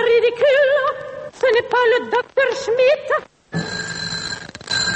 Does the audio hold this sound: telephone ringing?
yes